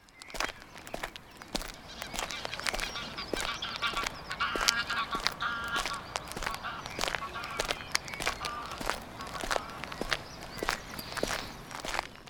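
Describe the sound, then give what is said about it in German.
A flock of greylag geese honks continuously over farmland, overlapping calls layered together, while crunchy footsteps walk steadily throughout. “Aber der Landwirt, der braucht das hier als Ackerfläche und man kann hier immer die Gänse beobachten, die Graugänse.”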